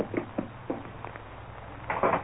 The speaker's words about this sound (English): Enter and close door.